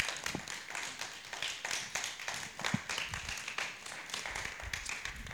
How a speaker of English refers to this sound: By the way, as she comes, yes, right, keep the applause coming, going until she gets here.